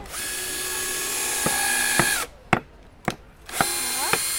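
A power drill whines steadily, winds down to a stop, gives a few short bursts, then revs back up to full speed as a girl drills while building a soapbox car.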